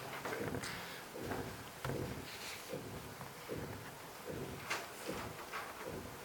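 A door handle is rattled and the door thumps against its frame again and again in a steady rhythm, as if someone is trying a locked door. No one speaks.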